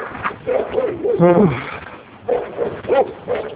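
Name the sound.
dogs barking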